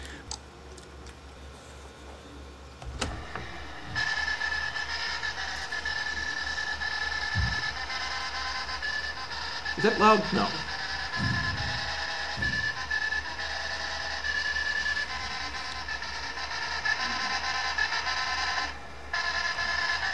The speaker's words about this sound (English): being played by a IBM 1401 printer in the late 60s. This, you know, this is a, if you look at the screen, this is a unbelievably expensive printer to be doing this with.